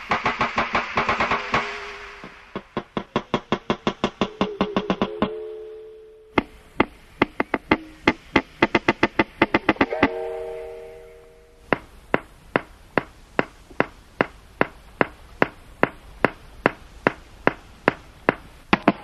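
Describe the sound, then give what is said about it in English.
Wild walrus breeding sounds recorded underwater in the Canadian High Arctic: rapid trains of sharp knocks, some speeding into rattling bursts, mixed with ringing bell-like tones, then slower, evenly spaced loud knocks toward the end. “This medley of breeding sounds includes knocks and bells.”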